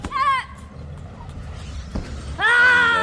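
Two loud, forceful, deep guttural martial arts yells made by forcing the air up and out, a short sharp one followed by a longer sustained shout, separated by a brief pause, with no talking in between.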